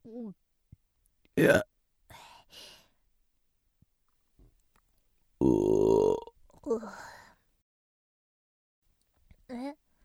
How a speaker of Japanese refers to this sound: なんでゲップするのかって？しないと気持ち悪くなっちゃうんだよね。すっきりした。